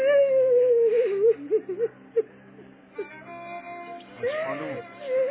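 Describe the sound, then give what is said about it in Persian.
A woman cries and whimpers, with a long wavering wail, broken sobbing gasps and short catches of breath, then rising into another strained, tearful moan. “خانم جون من گریه نکن، بذار سبب چیسته یه گریه مرهمه، واسه خودت هم بد نیست، حتی یه بارم واسه صادق عشق نده.”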